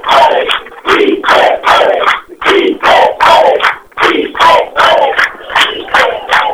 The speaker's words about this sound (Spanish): todos los presentes se han puesto de pie, los celulares, todo el mundo con celulares. Muchos vítores acá, muchos aplausos para el ingreso del presidente.